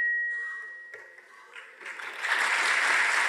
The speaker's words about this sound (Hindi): प्रधानमंत्री नरेंद्र मोदी ने दिल्ली में रविवार को हुए एक कार्यक्रम में ये बयान दिया तो देर तक तालियां बजती रहीं। प्रधानमंत्री ने जो संकेत देने की कोशिश की, कार्यक्रम में मौजूद लोगों ने उसे हाथों हाथ लिया।